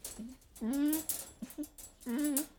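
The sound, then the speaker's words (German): A dog whimpers in a few high, whiny bursts, two longer drawn-out whines with shorter yelps between them, fairly soft and with no talking. “Der hat sich inzwischen total an mich gewöhnt.”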